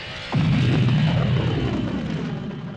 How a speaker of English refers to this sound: Pinnacle Base, we're clearing tractor beam, switching to repulsor lift